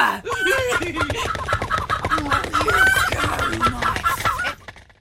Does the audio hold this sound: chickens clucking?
yes